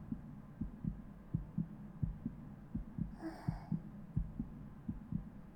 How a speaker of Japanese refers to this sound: じゃあ今日はたっぷり心臓の音聞かせてもらおうかな。そのまま動いちゃダメだからね。今日は本当にいつもより心臓の音が早いね。